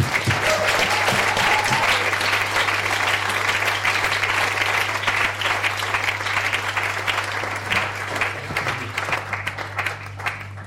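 Sustained audience applause, dense and steady clapping from many hands for about ten seconds, fading slightly toward the end, with a low steady hum underneath.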